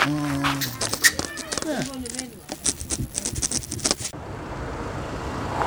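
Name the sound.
car arriving and parking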